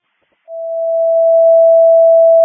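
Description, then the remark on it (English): A Crystal Lake Fire Department Station 1 dispatch alert test tone sounds after a brief silence: one steady, loud, mid-pitched tone that holds unbroken for about two seconds, with no voices. “Can I please get another test of the phones?”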